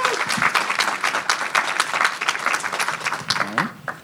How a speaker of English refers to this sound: So, again, please give Erica Alexander a round of applause.